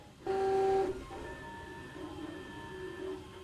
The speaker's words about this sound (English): I guess you can hear that. That's the printer, and it has begun laying out the first couple of layers of this rook that we're, this plastic rook chess piece that we're building.